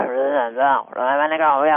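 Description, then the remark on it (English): A person vocally imitates a Sasquatch growl in two drawn-out, wavering bursts separated by a brief breath, loud, with a rough, moaning tone. “The one I've heard, and again, they use infrasound and ultrasound, so they can make sounds beyond our ability to hear, but the Sasquatch, and I think it's a little different from the ancient ones, they have a sound of a lot of, like, growling.”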